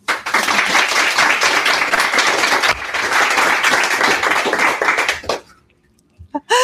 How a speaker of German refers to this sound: Und jetzt bitte einen großen Applaus für unsere Gäste.